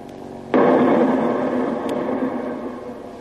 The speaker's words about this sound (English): Depth charge, 30 feet. Depth charge, 30 feet, ready. Release. Say, aren't those things liable to tip us over? I can feel our boat jump up every time one goes off.